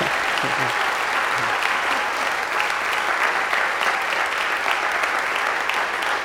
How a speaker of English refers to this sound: Thank you very much. I would like to, you may applaud if you want. Thank you.